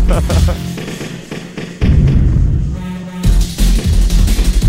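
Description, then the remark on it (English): Explosions in a Breakout-style video game boom and crackle in a loud, dense barrage, with heavy thuds and bursts of noise following one another almost without pause, each blast cutting in sharply. “It kind of pans and zooms around and it has lots of explosions and it rotates”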